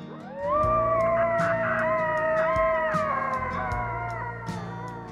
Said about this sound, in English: Those are coyotes howling in Yellowstone National Park, but they're not sticking to the wilderness.